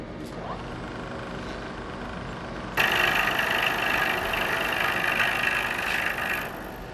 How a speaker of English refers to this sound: This will guide him when he carves on the milling machine.